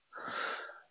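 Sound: sneeze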